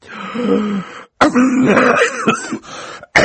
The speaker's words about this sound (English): Mr. Poe opened his mouth to speak, but had to cough a few times before he began.